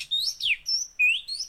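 A bird chirps in a quick series of bright, high whistled notes, some rising and some sweeping downward, close and clear with no one talking.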